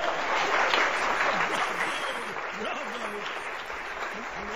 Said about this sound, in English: Please to give much applause to our two volunteers!